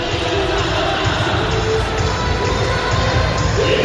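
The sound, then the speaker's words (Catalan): A dense, steady roar of the crowd in the Palau Blaugrana sports arena during a Copa de la Reina volleyball semifinal, with the arena's powerful PA system, loud and continuous throughout, with a reverberant, echoing wash of many voices blending into one another. “També la megafonia, la potenta, sí, sí. El Palau Blaugrana, igual que Lleida, el pavelló 11 de setembre.”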